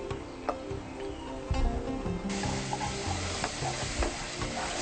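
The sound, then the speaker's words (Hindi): Browned roasted flour (atta) crackles and sizzles in a pan over a gas flame with scraping stirring sounds, then the hiss swells sharply partway through as water is poured in little by little, continuing loud and steady with occasional ticks. “अब आप देख सकते हैं आटा अच्छी तरह भुन गया है। अब इसमें पानी मिलाइए।”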